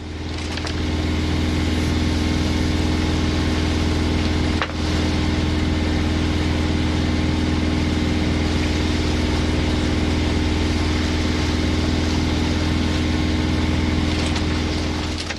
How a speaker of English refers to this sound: Then the wind died. So we put the engine on.